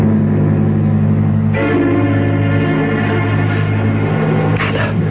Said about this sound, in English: Go on, Mr. Engineer. Blow your train whistle for New York.